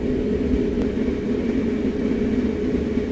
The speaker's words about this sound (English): Welcome aboard is 0844 Southwest Train Service to Haslemere. Schedule arrival time at Haslemere is at 9:20.